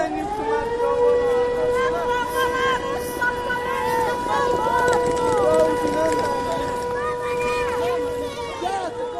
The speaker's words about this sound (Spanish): Desde primera hora de la mañana, la estación de trenes de Kiev está completamente abarrotada. Muchísimos ucranianos tratan de huir al ritmo de las alarmas antiaéreas.